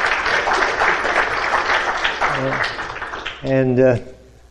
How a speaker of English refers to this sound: You got applause. That's good.